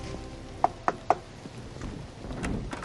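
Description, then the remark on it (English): Three quick, firm knocks on a door in an even rhythm, fairly loud, followed by quiet room noise with no voices. “This is the one knock I dread, and it never gets easier.”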